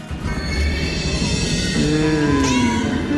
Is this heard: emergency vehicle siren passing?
no